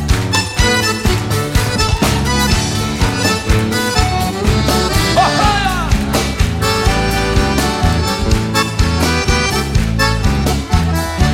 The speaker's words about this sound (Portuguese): Quero contar com a participação de vocês. E no ritmo da canção, as palmas, vamos ver. Bem forte, vamos ver.